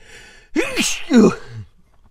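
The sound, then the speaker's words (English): A single sneeze: a rising, voiced gasping inhale, then a sharp breathy burst trailing into a short vocal tail, fairly loud with no talking around it. “I'm gonna sneeze. I can feel it.”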